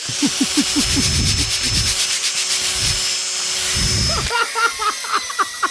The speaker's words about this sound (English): Sandpaper? It's like we're at Lowe's.